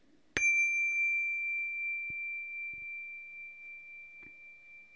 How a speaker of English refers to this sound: As the closing bell fades, keep your gaze soft and steady, looking straight ahead or into the busy visual field from the vast invisible world at your core.